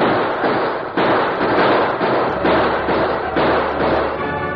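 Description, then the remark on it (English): A heavy, sustained barrage of gunfire from gunmen attacking a wagon train shortly before dawn, many overlapping shots cracking loud, forming a dense rolling volley with a low rumble underneath and no voices. “Hey, listen. Gunfire harder.”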